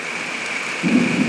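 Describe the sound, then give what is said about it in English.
Steady, dense rainfall outdoors hisses across a broad band, with a deeper rumbling swell joining in near the end. No one speaks over the continuous downpour. “Let's let everybody hear the next 10 seconds of the rain.”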